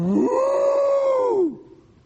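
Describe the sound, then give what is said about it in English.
A single long, drawn-out cow moo, loud, rising at the start, holding steady, then sliding down and fading after about a second and a half. No one speaks. “Well, that's not exactly a cheerful note. Or even a cow.”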